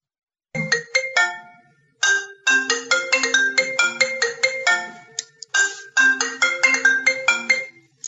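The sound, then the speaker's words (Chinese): A phone ringtone plays loudly and clearly for an incoming call from a man's wife, a bright rapid melodic jingle that starts, pauses briefly, then repeats in bursts with no voices over it. “快啲听电话啦！你老婆揾你啦。”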